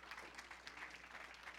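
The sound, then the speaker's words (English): A church audience claps their hands as a clap offering of praise: a steady, dense wash of applause, many overlapping claps filling the space at moderate volume with no voices standing out. “Yeah, give a lot of clap offering.”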